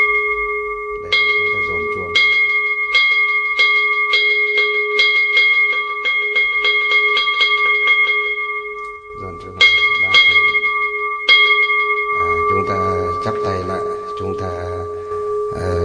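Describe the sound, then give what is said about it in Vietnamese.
A Buddhist temple bell is struck over and over in accelerating rolls once the Buddhists and their families are seated, its bright sustained ring layered and humming between hits, loud, with some low rumbling underneath toward the end. “Khi chúng ta giải ra như thế này mà chúng ta nhìn thấy là các Phật tử và người nhà của họ đã ngồi vào đâu vào đấy rồi, trang nghiêm đạo tràng rồi, bắt đầu thì chúng ta mới dồn chuông.”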